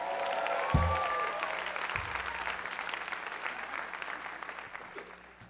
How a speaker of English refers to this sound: Well, I just hate when like two people clap and then everybody don't clap together.